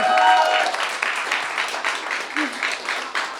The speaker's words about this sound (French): Et j'aimerais aussi qu'on fasse la même acclamation pour ma backeuse